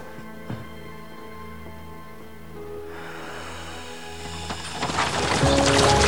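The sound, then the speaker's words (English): Four horses pull a carriage through the countryside, hooves and wheels rumbling steadily, then a loud wet splashing swells as they churn through muddy puddles, growing rougher toward the end. “Now, four horses splash through muddy puddles as they pull a carriage through the countryside.”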